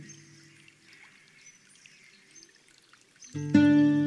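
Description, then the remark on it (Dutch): A small stream winds through a sunny landscape, trickling and babbling softly in the background, with faint bird chirps above it, until a louder, sustained tonal sound abruptly takes over near the end. “Als je goed luistert, hoor je het geklater van een klein riviertje.”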